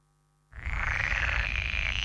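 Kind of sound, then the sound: animal, frog croaking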